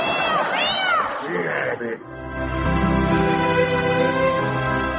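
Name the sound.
cat meowing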